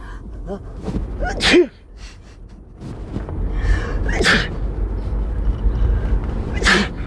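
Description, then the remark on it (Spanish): Three sharp, forceful sneezes from a listener, spaced a couple of seconds apart, each a sudden loud burst over a faint background hiss. “Hoy, dos muestras, dos de estornudo de oyente.”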